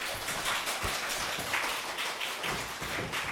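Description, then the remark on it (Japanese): Steady applause from an audience welcoming a guest speaker at a church's 70th anniversary event, a dense, even patter of many hands clapping together that holds at the same level throughout, with no voices heard over it. “拍手を持ってお迎えしましょう”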